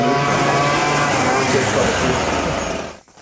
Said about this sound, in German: Jetzt haben wir wieder einen Rasentrimmer. Ja, weil der hört jetzt die nächste halbe, dreiviertel Stunde durch.